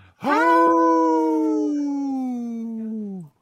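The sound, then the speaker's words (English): A band member imitates a wolf during a radio show, giving one long, loud howl that rises quickly, holds steady, then slides slightly lower before cutting off after about three seconds, with no other sounds. “Well, we need a wolf in our band, yeah.”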